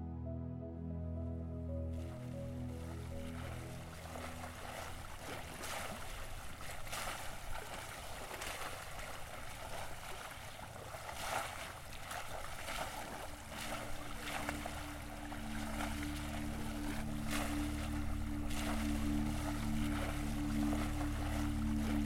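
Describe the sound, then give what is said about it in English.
A boat moves across the open Mediterranean Sea on a hot summer afternoon, a steady low hum running beneath a continuous wash of water, with waves surging and splashing against it in regular swells. No one speaks. “It's a hot summer afternoon on the Mediterranean Sea.”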